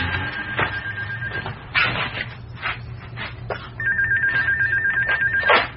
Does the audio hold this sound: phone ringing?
yes